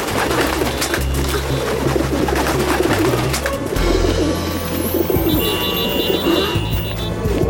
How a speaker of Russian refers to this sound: Голуби заполнили Париж.